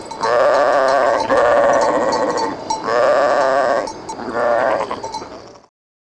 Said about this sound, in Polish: Na końcu beczał baran.